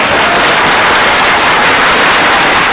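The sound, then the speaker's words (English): A steady, dense wash of clapping fills the whole moment, many hands applauding at once with a loud, even crackle and no voices over it. “Let's get some applause up here for you.”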